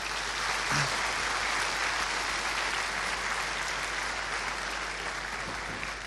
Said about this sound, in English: Yeah, it's the 20th first time already, and I think when giving the keynote, that's the biggest chance to really give thanks to the organizers and all the volunteers that make this great conferences happen. So give a round of applause, please.